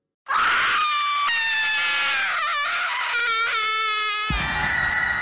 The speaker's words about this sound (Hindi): दरवाजा खोलने की जैसे ही कोशिश की उसने बालकनी में कुछ ऐसा देखा कि उसकी चीख निकल गई।